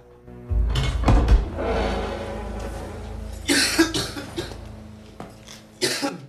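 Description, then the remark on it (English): A man gives a short, breathy snort to himself while studying a photo, followed by a few more sharp nasal bursts and rustling at uneven intervals, with no talking. “Hare studies a photo of Ned and snorts to himself.”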